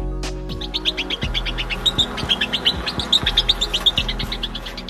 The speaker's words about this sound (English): It is just too high-pitched for human ears to pick up, thus we can't hear the noise. So Japanese scientists genetically engineered rats that chirped in a lower tone, creating this bird-like tweet.